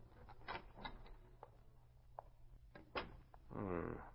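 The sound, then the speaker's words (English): Soft metallic clicks and wooden knocks as a skeleton key turns in a lock, followed by a longer creaking sound as a door swings open into the darkened offices of Biography Incorporated, all fairly quiet. “Using his skeleton key, he quietly entered the offices.”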